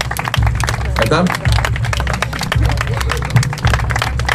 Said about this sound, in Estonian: Aga tehke sõjameestele üks suur aplaus.